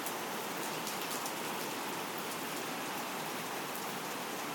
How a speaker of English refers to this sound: It is raining, yes. And thundering too. I don't know if we're gonna get any more thunder now, but yeah, it's raining, listen.